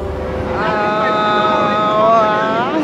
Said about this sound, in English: What you're hearing right now is Max Neuhaus's Times Square, a sound installation that was first activated in 1977. Below this subway grate of which we stand, he went down and he installed speakers